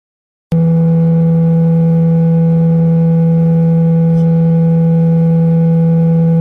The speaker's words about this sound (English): there's this sound frequency that you can play on your phone that will actually make your phone super cold